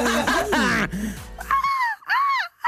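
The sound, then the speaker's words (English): A voice imitates a gull's screech with a run of harsh, wavering wails, starting rough and lower, then breaking into two high, arching cries separated by short pauses. “Can I screech like a gull?”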